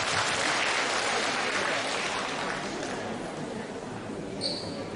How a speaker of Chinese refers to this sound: 让我们再次用掌声感谢卢军宏台长为我们看图腾。